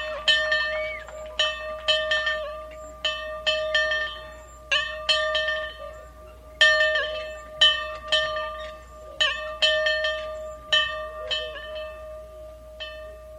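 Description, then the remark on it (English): A bell rings out repeatedly to open a meeting, struck around twenty times in an uneven, steady succession, each clear metallic chime ringing on and overlapping the next, with no voices. “It is fitting to ring the bell for the meeting to begin.”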